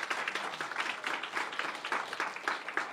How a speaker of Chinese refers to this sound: 拍手把荣耀归给他好吧。